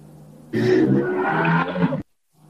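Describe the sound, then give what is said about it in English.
A loud, rumbling motorcycle engine roars for about a second and a half, then cuts off abruptly into silence. No one speaks over it. “Sorry, there was a motorcycle.”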